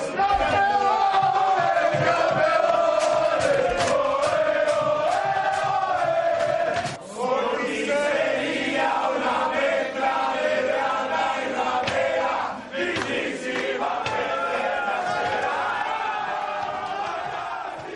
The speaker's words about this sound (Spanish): En el vestuario del equipo blanco, el grito de campeones y la canción de moda dentro del camerino de los blancos